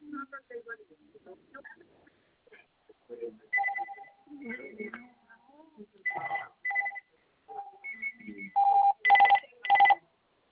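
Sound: telephone ringing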